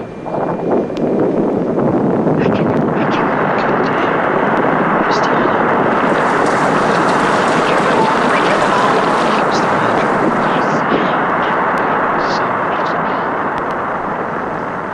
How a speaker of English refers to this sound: Voyager 1 neared Jupiter, the tiny spacecraft crossed the planet's bow shock, a mammoth wall of charged particles bordering Jupiter's powerful magnetic field. The chirping sound is made by electrical charges dancing about near the edge of the shock.